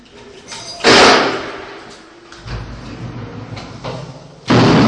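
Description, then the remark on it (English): Heavy prison doors at Columbia Prison on Highway 39 near Portage slam shut twice behind a visitor, a loud booming clang near the start and another at the end, with a low rumbling slide and echoing noise in between. “Once the doors closed behind me on a recent visit there, I found it can be quite a peaceful and even spiritual place.”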